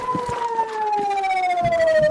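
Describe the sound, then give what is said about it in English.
A civil defense air raid siren wails steadily in Matula, on Israel's border with Lebanon, as a rocket barrage comes in; its tone slowly falls in pitch, loud and sustained with a faint background murmur beneath it. “Then, sirens.”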